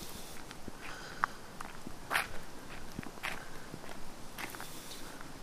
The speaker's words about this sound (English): I'm walking with my sharp tack feet. This is footwear report. I'm wearing shoes with rubber underclingers with nails sticking out.